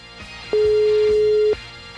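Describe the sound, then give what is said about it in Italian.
A single steady ringback tone sounds for about a second, a phone ringing unanswered on the other end of a call to a restaurant, over faint rhythmic background music. “Non rispondono al telefono.”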